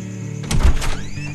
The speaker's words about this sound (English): Quit stalling and knock already. All right.